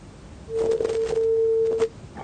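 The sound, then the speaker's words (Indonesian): A steady telephone line tone hums for over a second, clear and moderately loud, with faint clicks and line noise around it, on a phone-in line for questions to an Islamic preacher; the call does not connect. “Belum tersambungkan.”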